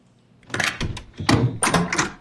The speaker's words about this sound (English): I will be out in a minute. Will you open this door, please?